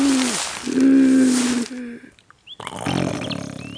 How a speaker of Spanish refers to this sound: No bien oye la heroína el titánico roncar, baja al césped y camina por la ruta de su hogar.